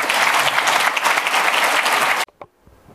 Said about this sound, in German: geben wir ihm doch noch einen warmen Applaus zum Abschied.